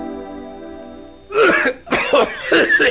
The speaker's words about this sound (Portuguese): Interrompemos esta tosse para um comunicado importante sobre a tuberculose.